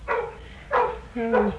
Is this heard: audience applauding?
no